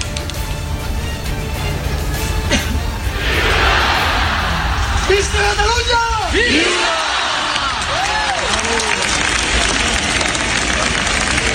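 A huge protest crowd of thousands in Barcelona roars steadily, and around the middle rising collective shouts of 'freedom' and 'independence' swell out of the dense noise in a few rhythmic, chant-like bursts; the demonstrators call for the release of Jordi Sànchez and Jordi Cuixart.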